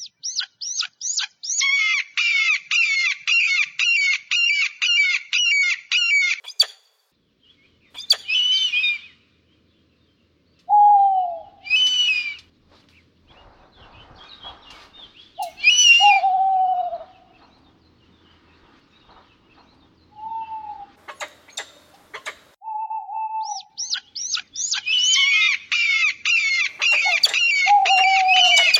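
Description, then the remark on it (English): Predatory bird calls ring out clear: rapid, shrill chattering bursts at the start and end, with scattered squawks and softer, lower whistled notes in between. No one speaks. “Let's go now to the sounds of predatory birds.”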